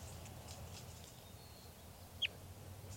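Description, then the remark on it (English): A single short, sharp flag call from a crossbill being handled, recorded at 12:20 p.m. on June 4th amid occasional rain and hail, chirps out once near the end, clear above a steady low background rumble, with no talking. “And the flag call.”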